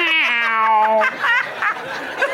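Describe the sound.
A person doing sound effects imitates an older, tired cat with a drawn-out, sagging meow that trails off, followed by breathy, chuckling vocal noises.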